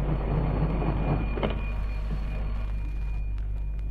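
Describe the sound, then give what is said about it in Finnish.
Railway signal box levers and technical devices being worked in the dispatcher's office to give a train its departure order: a single sharp metallic clank cuts through a steady low mechanical hum, with softer scraping and a faint high whine. No voices. “Sen tähden tarvitaan tämä monipuolinen vipujen ja teknillisten laitteiden kokoelma täällä hänen konttorissaan. Siinä on työtä ja touhua, kuten kuulemme.”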